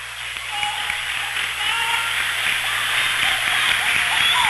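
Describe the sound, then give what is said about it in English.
A big crowd at a basketball game applauds steadily because the game is decided, a dense wash of clapping that holds at an even, fairly loud level for the whole few seconds. “So the applause you hear is not because the game's over.”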